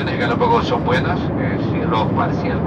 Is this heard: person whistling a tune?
no